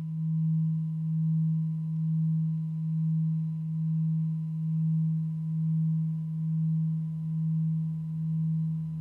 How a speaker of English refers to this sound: ringing out 2020, ringing in 2021 with Tibetan temple bells.